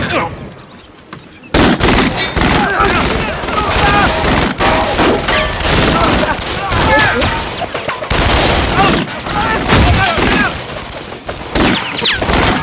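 A heavy volley of gunfire erupts after a brief quiet start, with dense overlapping shots and crashes continuing loud for over ten seconds, voices faintly mixed beneath.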